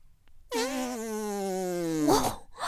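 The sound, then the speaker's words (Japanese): A single long, buzzy, hot and smelly fart holds a steady tone for over a second, drifting slightly lower in pitch before ending in a short, breathy sputter. It is fairly loud, with no talking. “チンポに熱くてくっさいおならぶっかけちゃった。”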